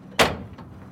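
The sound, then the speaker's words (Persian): A car door thuds shut with a single sharp slam that rings briefly, followed by a faint click, as someone gets out of a car in front of a studio; no one speaks. “از ماشین پیاده میشه.”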